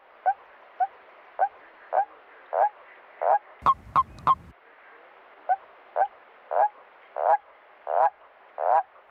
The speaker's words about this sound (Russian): Это серая жаба. Серую жабу еще называют коровницей. А вообще жабы очень похожи на лягушек.